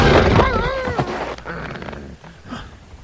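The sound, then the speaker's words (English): Wolves snarl and yowl in a loud, wavering burst as they collide and tumble together in a heap while chasing a flying squirrel, followed by fainter scuffling and thumping as the scramble settles. “The wolves tumble in the heap.”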